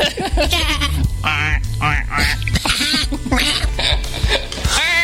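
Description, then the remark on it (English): A person imitates a duck with a run of nasal, buzzing quacks in quick repeated bursts, fairly loud, while other voices chuckle and chatter alongside. “I'm the duck part because I took like a duck to water. Like, wah, wah, wah.”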